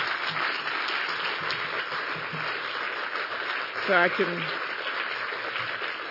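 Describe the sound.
An audience at a session applauds a team in thanks steadily for about six seconds, a dense, even wash of clapping. A brief voiced call rises above it near the end.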